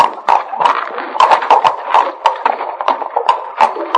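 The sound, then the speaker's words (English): Several horses' hooves clop at a walking pace as the horses are led into an old mine entrance, an uneven run of sharp, hollow knocks overlapping one another at a steady moderate loudness, with no voices. “And this is an old mine entrance, high enough to lead our horses in.”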